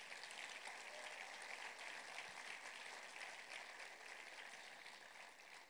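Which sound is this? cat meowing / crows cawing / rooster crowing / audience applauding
audience applauding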